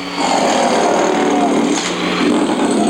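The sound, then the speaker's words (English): A pneumatic drill runs loudly and continuously for the whole stretch, a harsh, dense mechanical roar with a steady level and a rapid chattering texture, used in a stage show skit where a hard hat goes after the performer Thor with it. “There's even a skit where a hard hat attacks Thor as the god of thunder, stacks cement blocks in his chest, then goes after him with a pneumatic drill.”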